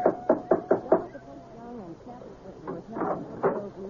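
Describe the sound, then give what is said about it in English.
Five sharp, evenly spaced knocks from a big brass knocker on the front door of a house ring out in quick succession, followed by a voice speaking briefly. “There was a big brass knocker on the front door.”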